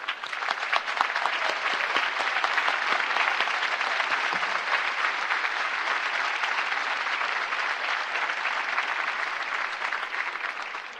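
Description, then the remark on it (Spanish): A large audience claps steadily and loudly for about eleven seconds, a dense, sustained wash of applause with no talking, holding even before fading slightly at the end. “Pido para todos ellos este fuerte aplauso.”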